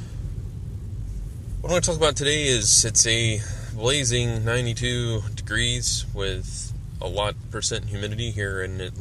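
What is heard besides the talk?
car interior driving noise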